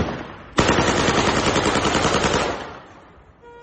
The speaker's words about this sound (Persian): این ویدیو را هم خبرگزاری فارس منتشر کرده. به نشانه وجود افراد مسلح در ایزه، شخصی با لباس بختیاری تیراندازی هوایی می‌کند.